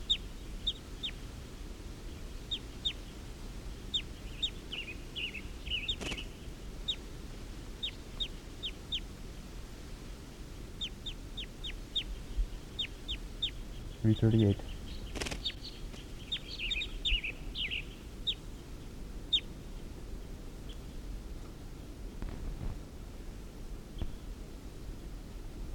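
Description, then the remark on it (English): Wild birds call from the trees in scattered bursts of short, high chirps and clucks, repeating on and off throughout, with a couple of brief thumps midway and no talking. “And the wild birds are up in the trees calling, like they're going to get ready to take off.”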